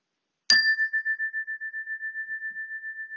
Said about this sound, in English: At the sound of the chime, the meditation will begin.